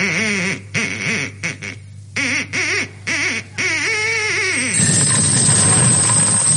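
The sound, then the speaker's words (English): An Aylesbury duck squawks and quacks in a quick series of wavering, nasal calls, loud, before a sudden burst of rattling, clattering noise takes over at the end. “here is a very unusual recording of an Aylesbury duck laying 15 shillings”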